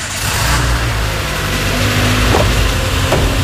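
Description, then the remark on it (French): A work car fitted with a GPS tracker starts off, its engine rumbling loudly and steadily and revving as the vehicle gets moving, with a couple of brief knocks near the end and no voices. “Je prends maintenant la voiture du travail.”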